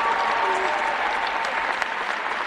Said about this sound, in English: Let's give these business owners and homeowners a round of applause up here today.